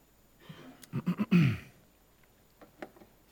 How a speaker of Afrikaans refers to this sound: Ekskuus, ek moet net weer 'n slukkie water neem. Nie omdat ek wil nie, maar omdat ek moet.